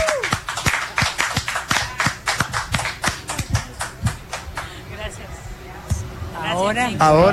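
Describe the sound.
On the seventh night of the Sapucaí festival in Corrientes, an audience applauds to welcome two sister performers, with loud, sharp claps in a quick, fairly steady rhythm, then the clapping loosens and thins as a voice rises and whoops at the end.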